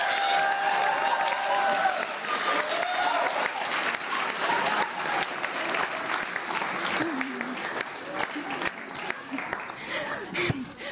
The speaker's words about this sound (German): Herzlichen Applaus für den Thomas. Let's go!